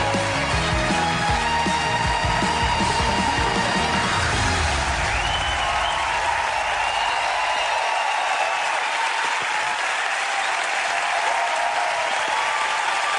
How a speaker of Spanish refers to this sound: Ah, vale. Sí, que hay aplausos.